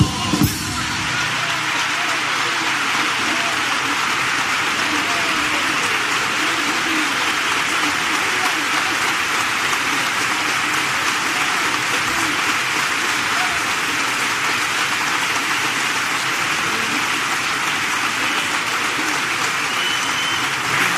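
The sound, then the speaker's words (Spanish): Sustained applause from a large theatre audience at the Gran Teatro Falla after a song performed mostly without instruments, a dense, steady wash of clapping that holds at an even, loud level for about twenty seconds without letting up. “Sí, sí, muy aplaudida, ¿eh?, por el Gran Teatro Falla, y lo pueden sentir.”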